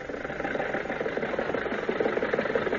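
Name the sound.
car engine driving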